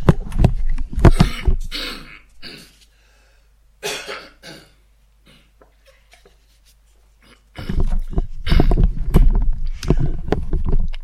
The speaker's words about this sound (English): And I'm just going to take the headset off here for a quick second and just have a little cough and a drink here so that I don't be too croaky. Hold on.